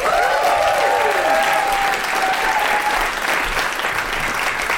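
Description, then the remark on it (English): A crowd applauds steadily, a dense, even patter of many hands clapping that holds strong for the full few seconds, with a faint whistle or cheer rising over it early on. “And the eagle-eared of you listening at home will have worked out that there are other people in the room with us because we are at the London Podcast Festival, no less.”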